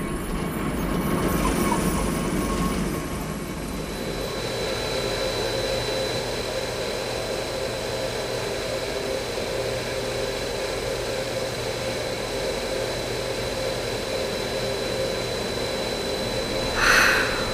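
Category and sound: vehicle, train running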